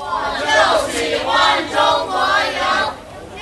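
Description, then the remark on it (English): About a dozen counter staff at the Beijing Press Center McDonald's during the Beijing Olympics chant the rehearsed cheer "We really hope China wins" in loud unison, their voices rising and falling in several rhythmic, sing-song phrases. “Nor have I ever seen the counter help a dozen strong break into a well-rehearsed cheer.”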